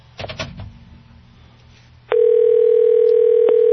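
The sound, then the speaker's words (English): A telephone line clatters briefly as the receiver engages, then a loud, steady dial tone hums continuously with a faint click near the end, as a call out from a radio studio struggles to get through. No one speaks. “And I'm having a little problem, as you can hear, getting through. Let's try one more time.”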